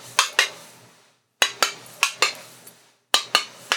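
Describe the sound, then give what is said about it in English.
Light, sharp taps on a door on a train, a steward knocking, come in short bursts: two quick raps, a pause, then four or five, then three more. Each tap is crisp and bright, with no voices. “This is how he knocks on the door.”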